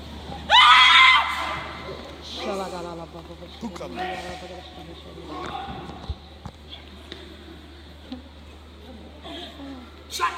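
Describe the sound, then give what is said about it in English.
A sudden, loud, shrill scream erupts near the start during a deliverance exorcism at a meeting of about 600 people in India, followed by several seconds of agitated, wailing voices over a steady low hum. “This is a deliverance anointing. Makes demons scream.”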